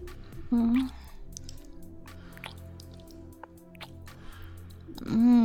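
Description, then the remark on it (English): Wet licking sounds from licking a partner clean after oral sex repeat in soft, irregular smacks and slurps for several seconds. A brief low hum from a voice comes near the start, and another at the end. “Time to lick you clean.”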